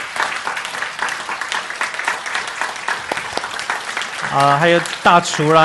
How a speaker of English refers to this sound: So today I want to give special thanks. 所有的孩子们，你们有服侍的，都请你们站起来。 On the Mother's Day banquet and everyone who work behind the scene, please stand up and we want to give you applause.